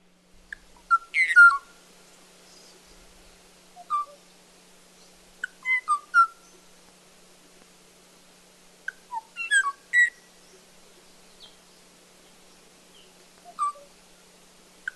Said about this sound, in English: Kauai o'o is one of the most haunting of all of those sounds. We actually have some sounds of it, so let's take a listen.